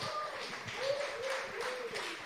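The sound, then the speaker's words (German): An audience applauds with a steady, dense patter of clapping that lasts a couple of seconds, with a few faint voices or whoops rising and falling underneath. “Und jetzt, genau, Applaus.”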